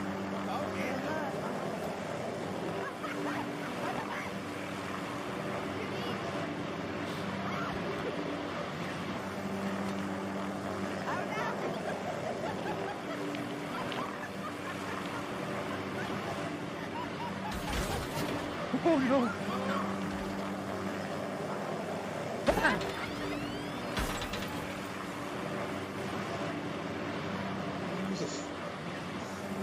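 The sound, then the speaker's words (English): A helicopter's engine and rotor drone steadily and loudly for the whole stretch, a dense continuous roar with a few brief sharp bursts cutting through near the middle and later on. “Is in the helicopter? Clearly.”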